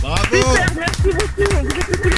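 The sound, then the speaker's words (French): A short burst of applause on Chérie FM radio after a caller wins a vinyl turntable, with steady clapping mixed under loud, overlapping voices that sound like cheering or excited talk, fairly loud. “Platine vinyle, applaudissements.”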